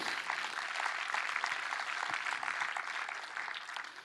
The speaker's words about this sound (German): Danke, Jesus, dass du in mein Leben gekommen bist. Kann man sowas beten? Kann man ihm da mal einen Applaus geben jetzt hier und heute?